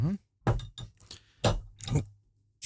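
A bottle of Westvleteren 12 beer (10%) is pried open without a bottle opener, with a few sharp clinks and scraping taps of metal on glass, spaced about half a second apart, with a brief voice at the start.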